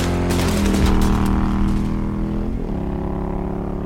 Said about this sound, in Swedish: Jesus hinner knappt bli rädd innan han ser vapnets mynning. En svärm av kulor genomborrar karossen innan motorcykeln gasar därifrån.